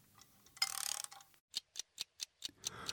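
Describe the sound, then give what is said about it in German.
A mechanical bell alarm clock is set and wound with a brief rasping ratchet, then ticks steadily and crisply, about four ticks per second with no one speaking. “Zur Sicherheit stelle ich noch meinen Rasselwecker.”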